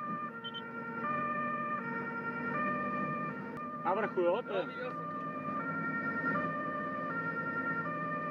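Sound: fire engine siren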